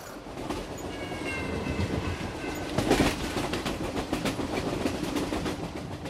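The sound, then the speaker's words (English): A train in Transylvania rolls steadily along the rails with a continuous low rumble and rhythmic clacking of wheels over track joints, plus faint high squeals and a brief louder burst midway. “No, I'm on a train.”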